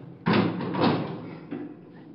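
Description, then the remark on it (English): In the cold, a door whose bar has just been cut off with big cutters is pushed open with a sudden loud scrape, then a grinding, creaking drag that swells once more before a final softer knock as it settles, with no voices. “Open the door.”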